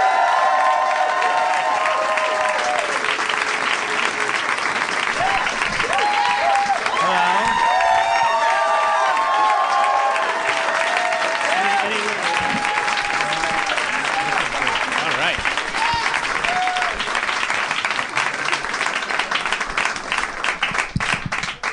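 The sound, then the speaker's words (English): Sustained, loud applause from a large audience greeting the guest David Cross fills the whole stretch, dense steady clapping with cheers and whoops rising over it, never letting up across roughly twenty seconds. “There was some extended applause there.”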